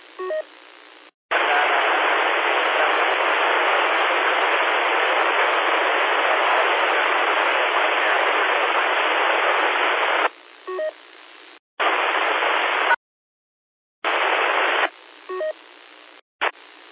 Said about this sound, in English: Try it again. Hold the one a little bit longer. You got a lot of static in there, and that kind of makes it hard to decode DTMF with all that static.